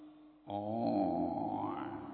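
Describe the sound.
A person imitates a buffalo's call with one long, low, droning moan that starts abruptly, holds steady and loud, then rises slightly in tone before fading.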